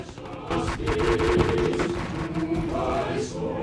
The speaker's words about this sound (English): He flinches slightly as battle sounds echo in his head, merging with the music.